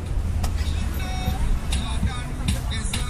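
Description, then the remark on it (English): A bus whizzes steadily down a road known as the railway line, its low engine drone constant, with faint voices of passengers shouting out stops such as Rat Hole and Fried Rice Alley and brief clattering bursts mixed into the busy street noise. “Along the way, you hear shouts for Rat Hole and Fried Rice Alley as the bus whizzes down a road known as the railway line.”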